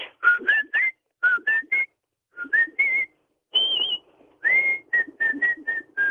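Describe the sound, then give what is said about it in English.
A woman whistles the bouncy pop melody of an old a band's song, with short, clear notes grouped into rhythmic phrases separated by brief pauses, and no talking. “I'm still the …”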